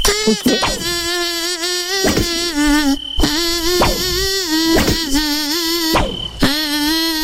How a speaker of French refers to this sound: Ah, c'est quoi ce truc, quoi? Alors, le moustique chante une chanson, vous de la reconnaître, c'est parti.